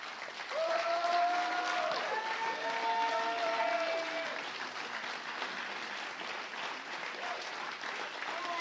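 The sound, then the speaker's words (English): Sustained audience applause for a group of women, a dense steady wash of clapping, with a few high cheers and whoops rising over it early on before settling into even clapping. “And don't do it if you don't want to, but guys, if you want to, can we applaud these ladies?”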